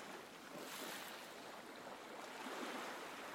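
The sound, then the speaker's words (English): Gentle sea waves wash steadily onto a beach shore, a soft continuous hiss of surf with mild swells in loudness and no voices. “Listening to the sea crash gently on the shore.”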